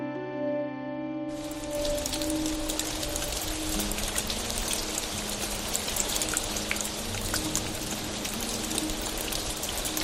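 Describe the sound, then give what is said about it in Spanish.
After a short musical tone fades, steady rain falls on a hard surface, a dense hiss of patter with scattered sharper drops continuing evenly to the end. “Pues sí, llovió.”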